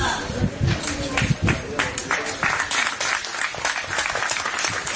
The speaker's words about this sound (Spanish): Ha habido, Álvaro Rubio, aplausos, pues, haber caído eliminado, ¿no?